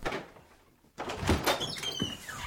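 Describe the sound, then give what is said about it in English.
A door at the back of a church sanctuary swings open with a soft thunk and a faint creaking scrape, followed by low rustling and shuffling in the quiet, reverberant space. “Then, at the back of the sanctuary, a door opened.”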